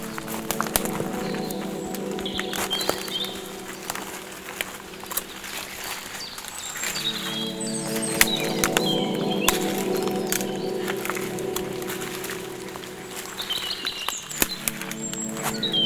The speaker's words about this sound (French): Et les oiseaux se moquent de la pluie. je ne puis les apercevoir, tellement la couverture des arbres protège les animaux de tout regard. Mais vous les entendez,